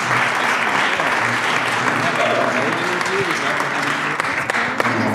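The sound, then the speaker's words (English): Sustained audience applause for guest Mark Fergus, a dense steady wash of clapping at a constant loud level for the whole stretch, with a faint murmur of voices mixed underneath. “Big round of applause.”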